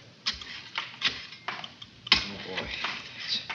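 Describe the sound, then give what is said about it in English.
A Geiger counter taking a radiation reading in an airlock, at the inner door, clicks irregularly, sharp ticks scattered unevenly over a few seconds with a faint crackle between them, fairly clear, with no voices. “Hand me that Geiger counter, son.”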